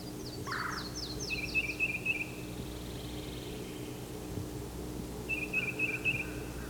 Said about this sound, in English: There's the yellow-throated warbler.